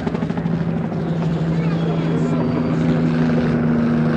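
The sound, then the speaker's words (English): A military police helicopter flying very low drones loudly and steadily for the whole stretch, its rotor giving a constant low, throbbing hum with a broad rushing wash on top. “Military police helicopter.”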